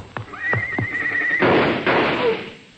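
horse whinnying

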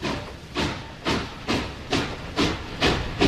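train building in intensity

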